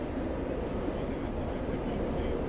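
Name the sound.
moving train interior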